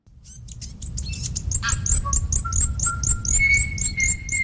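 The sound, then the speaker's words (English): Native birds singing in a busy chorus in a large predator-free enclosure on New Zealand's South Island: rapid repeated high chirps and sweet whistled notes, some held tones rising in pitch, over a steady low rumble, with no one speaking. “It's been years since native birds sang in these parts because of a plague of possums, rats and stoats.”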